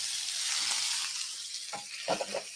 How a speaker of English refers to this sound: We got our nice smoking hot pan here. As you can see, it's definitely smoking hot. I'm just gonna place our fillets in there. Got that nice sizzle. You definitely want to make sure your pan's hot.